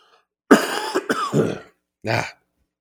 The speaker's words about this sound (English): It's giving me some problems. Still giving me a little lingering cold there. A little cough.